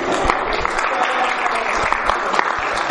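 An audience claps steadily throughout, a dense, continuous round of applause with many hands at once, fairly close and loud, with no one speaking over it.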